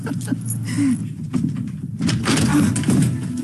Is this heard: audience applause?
no